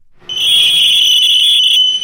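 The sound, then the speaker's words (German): Night-time noise from the Limmental rail shunting yard (Rangierbahnhof Limmental), Spreitenbach: a loud, piercing metallic squeal holds one steady high pitch for about one and a half seconds, then cuts off over a low background rumble. No one speaks. “Die Gemeinde Spreitenbach wehrt sich gegen Lärm vom Rangierbahnhof Limmental.”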